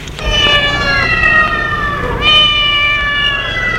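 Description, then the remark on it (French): A small grey cat meows insistently, two drawn-out, high-pitched cries with a slight wavering tone, clear over a faint background. “ils trouvent un petit chat gris, le prend et le mène à Rosemary qui est assise devant le feu”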